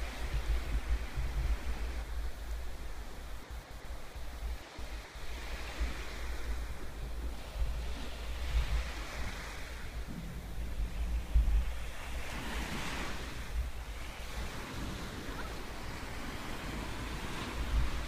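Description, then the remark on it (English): Ocean surf rolls in continuously, with waves swelling and breaking every few seconds over a steady low wash and a faint rumble of wind. No voices are heard. “Looking out to the wisdom of our teacher, the ocean reminds us to ride the waves of the breath.”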